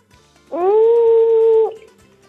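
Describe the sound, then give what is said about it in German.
A cellar door that needs oiling creaks open with one drawn-out squeak, a steady, mid-pitched whine lasting about a second that rises briefly at the start and then cuts off, with no voices. “Ja, aber dann mache ich das Tür wieder zu. Gehört geschmiert. Es quietscht ein bisschen.”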